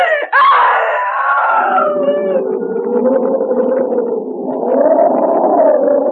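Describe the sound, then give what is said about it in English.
A woman lets out a loud, piercing scream of terror at night after touching something cold and gelatin-like; it starts high and shrill, then drops into a long, wavering wail lasting several seconds, with no speech. “That was the night, John, that I screamed.”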